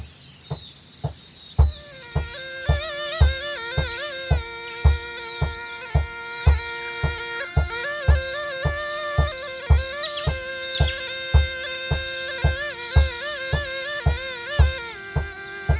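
A flute plays a lilting, stepwise little tune while the player taps a steady, even beat with a foot underneath, with no voices.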